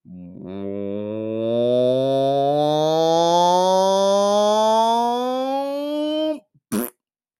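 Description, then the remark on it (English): A voice imitates with the mouth an echoey fart build-up used to begin a news segment, a long, rising buzzy tone that slowly climbs in pitch for about six seconds, then cuts off with a short sputter and a brief burst of noise. “For instance, when I start the news, I usually have a big echoey sort of like build up with a big echoey fart to begin the news.”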